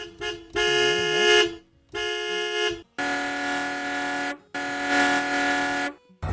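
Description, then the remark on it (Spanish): Car horns honk loudly in four long, blaring blasts separated by brief gaps, with a faint hum of traffic underneath and no voices. “Primer sonido, el fútbol, la discoteca, el claxon, el tráfico, ¡qué horror!”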